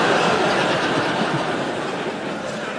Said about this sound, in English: Oh, there's my train.